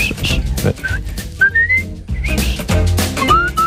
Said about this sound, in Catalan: Sí, sé xiular. Sí, però amb mascareta, no. A veure, deixa'm provar.